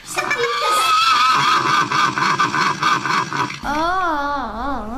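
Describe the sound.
A person imitates a horse whinny with a loud, wavering, high-pitched voice that trembles for several seconds, then slides into lower, undulating neighing tones near the end.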